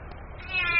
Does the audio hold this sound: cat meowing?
yes